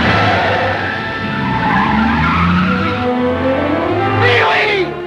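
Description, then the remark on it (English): A car speeds along a highway toward Pee-wee, a boy who has blindly stepped onto it, with a loud, continuous engine roar and rising, squealing tire skids sweeping through the sound, ending in a sharp screech. “As Pee-wee blindly enters the highway, a car speeds toward him.”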